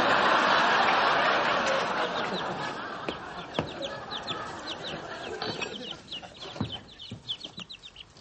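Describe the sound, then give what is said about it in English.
A cluster of small birds peeps and chirps rapidly, their high, overlapping calls scattered over a steady hiss that fades slightly as the chirping continues. “It was nice having birds around again.”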